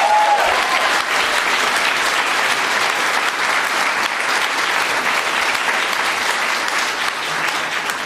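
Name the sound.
audience applause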